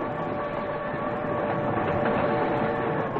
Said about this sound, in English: Here comes the train.